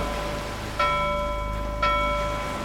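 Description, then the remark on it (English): A bell on a cruise ship rings out twice about a second apart, sounding four bells, each strike leaving a clear, sustained metallic tone that fades slowly over a steady background hiss like light rain. “Oh, that's four bells.”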